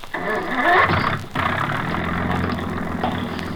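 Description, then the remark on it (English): A car engine cranks and catches with a loud, revving burst, then settles into a steady, rumbling idle. No one speaks. “start that engine.”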